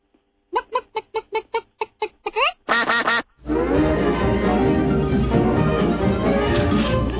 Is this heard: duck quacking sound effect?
yes